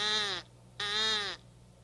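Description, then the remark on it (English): Two loud, harsh caws from a blown crow call, each about half a second long with a brief pause between, buzzy and nasal, with no talking. “Crow call. Remember that?”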